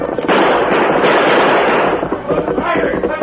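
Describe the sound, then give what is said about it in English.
Gunshots being exchanged in a Lone Ranger radio drama, as the outlaw El Diablo trades shots with the masked man and Indian: several sharp cracks ring out amid a loud, dense, continuous crackling roar that fills the whole moment without pause. “Blackie and Tex turned and urged their horses into a gallop up the opposite slope, while El Diablo held back to exchange more shots with the oncoming masked man and Indian.”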